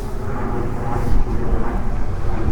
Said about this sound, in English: And now we got a plane flying overhead, killing my buzz.